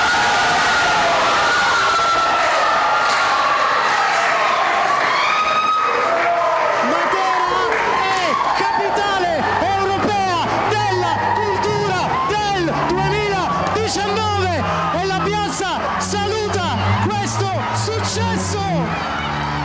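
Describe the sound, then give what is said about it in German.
A loud crowd erupts in cheering and jubilant shouting at the announcement that Matera is the European Capital of Culture 2019, sustained throughout, with excited voices rising and overlapping in a dense, celebratory roar that grows more animated partway through. “Überraschung, Jubel, Freude, Matera bewirbt sich erfolgreich als europäische Kulturhauptstadt 2019.”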